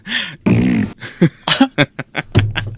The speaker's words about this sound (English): The fart wasn't so good. Let's do it again. Come on.